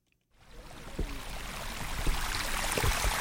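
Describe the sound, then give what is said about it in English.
Water gushes steadily from a drainage tube outside a house in Juneau on a Wednesday afternoon, draining its flooded crawl space after record-breaking flooding; a continuous rushing, splashing flow that starts abruptly after a brief silence and stays loud, with occasional heavier splashes. “Water was gushing from a tube outside Janet Coffin's house Wednesday afternoon.”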